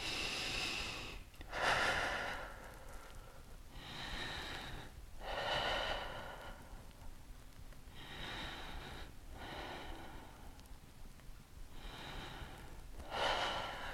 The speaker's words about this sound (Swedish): Vi tar 6 långa andetag. Varje utandning drar naveln upp mot ryggen. Du kan andas ut med munnen om det hjälper.